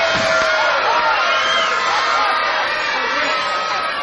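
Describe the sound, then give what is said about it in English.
A large jazz concert audience at Concerts by the Sea in Redondo Beach, on the ocean southwest of Los Angeles, cheers and whoops continuously on New Year's Eve, a dense wash of shouting voices and whistles at steady, loud volume throughout. “And we have a crowd that's ready for some music.”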